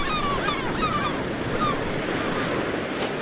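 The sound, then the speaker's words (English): A strong wind roars steadily for the whole stretch, a dense, loud rushing noise like surf. A few high bird calls cry out over it in the first second or two. “We've got a nice strong wind.”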